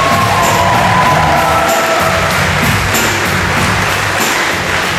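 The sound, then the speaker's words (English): An audience applauds and cheers loudly and steadily for about five seconds after a presentation from Atelier Chalet, a dense wash of clapping with scattered whoops and shouts mixed in, and no one speaking over it. “One more round of applause, ladies and gentlemen!”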